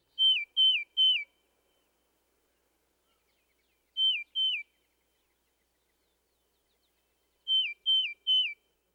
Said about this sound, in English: You can tell them apart, however, by listening for the radical up or down slurring in the cardinal's liquid whistles and the steadier pitch of the titmouse's slurred whistle.